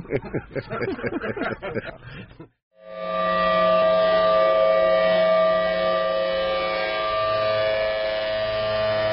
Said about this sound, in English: Oh, no, the sirens are frightening the children here. The kids are running, and the dogs are running.